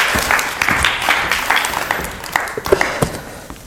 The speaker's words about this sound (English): To your applause.